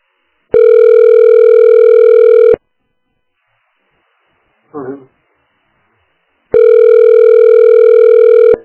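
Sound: telephone ringing tone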